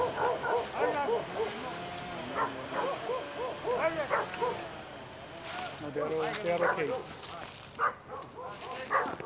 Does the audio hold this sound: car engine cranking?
no